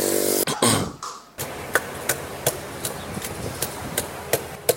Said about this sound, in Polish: Właśnie stoję przy stoisku ulicznej zielarki, która, jak Państwo słyszeliście, ubijała w swoim drewnianym naczyniu drewnianą pałkę, specjalnie wyselekcjonowaną przez siebie grupę ziół, pęczek, jakichś korzonków.